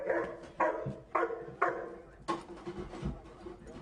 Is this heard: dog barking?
yes